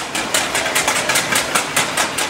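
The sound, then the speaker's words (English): People in a neighborhood banging pots and pans as a warning that police are coming: a dense, steady stream of bright metallic clanks, roughly four or five strikes per second, overlapping into a continuous clatter with no voices. “Everyone banging pots and pans, a warning to anyone who might be wanted that says, the cops are coming, hide or run.”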